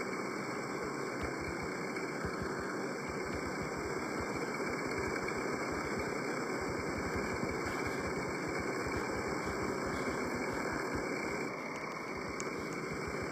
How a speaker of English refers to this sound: start your engines. Engines fired. We're ready to rock. We are ready to rock here in Daytona. Engines have been fired.